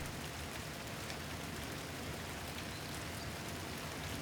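Steady rain pattering on a hard surface, a dense, even hiss of countless drops with faint individual taps, continuous throughout, with no voices.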